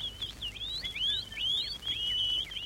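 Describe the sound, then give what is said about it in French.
Birds sing in a continuous high, warbling stream of chirps and quick rising trills, fairly soft, with no voices over the song. “Et les oiseaux chantent.”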